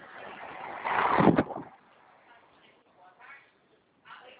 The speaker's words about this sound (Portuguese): Porque é perigoso mexer no celular quando a gente está dirigindo. Tem que estar com trânsito também. Ah, tá trânsito.